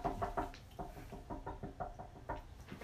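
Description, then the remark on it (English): A series of sharp knocks on a door, around a dozen raps in uneven bursts, moderately loud, with no voices over them. “I thought somebody was actually knocking on the door.”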